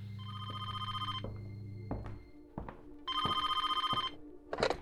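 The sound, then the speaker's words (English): A telephone at the Bevis Funeral Home rings with a call for an ambulance, in two long bursts of rapid, buzzing bell trills separated by a pause, with a low hum and some clunks underneath, no voices. “Jenny rang the Bevis Funeral Home for an ambulance, and 16-year-old Rocky Bevis took the call.”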